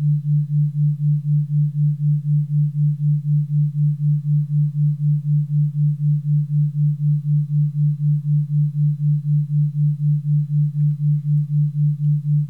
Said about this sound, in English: A third tone is created, a new tone, a binaural beat, is created by your mind. This tone is equal to 4 Hz, the difference between the tone you hear in your right ear and the tone you hear in your left.